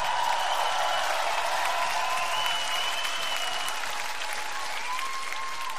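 An audience claps steadily for about six seconds as a band member is introduced, a dense, even wash of applause that holds its loudness throughout, with a faint sustained tone running beneath it.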